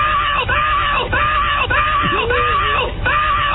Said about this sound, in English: Plus a woman screaming as she might if she were really, really enjoying herself.